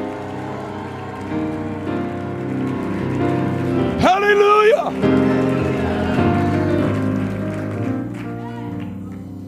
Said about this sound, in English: Go ahead, take 30 seconds and clap your hands and rejoice. Come on, make a joyful noise in here.